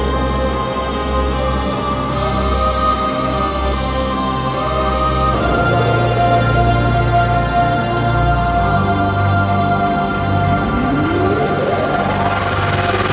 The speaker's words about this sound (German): Wir spielen den Jingle und dann sehen wir uns und hören wir uns gleich wieder.